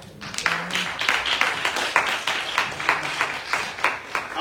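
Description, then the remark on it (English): An audience stands and applauds for the morning's teaching, a dense wash of many hands clapping in a steady rhythm, sustained throughout with a faint murmur of voices beneath. “So you guys stand up and clap your hands for this teaching this morning.”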